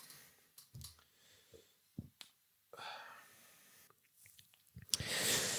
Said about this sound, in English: Let me just take a little sip here.